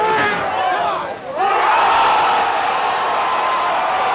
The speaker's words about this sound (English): He just won the tournament. The crowd goes wild.